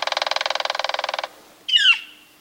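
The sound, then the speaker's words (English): A northern flicker woodpecker gives a rapid, even run of loud, ringing call notes for over a second, then, after a short pause, a single harsh, down-slurred cry, heard alone. “And the noisy northern flicker, the one that pounds on metal gutters.”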